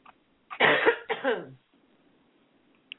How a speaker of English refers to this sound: Clearing her throat.